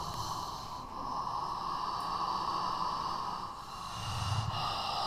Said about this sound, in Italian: Il corpo si muove al ritmo del respiro. L'aria entra ed esce dai polmoni. Entra ed esce dal corpo. Ne stende il raggio d'azione, di contatto.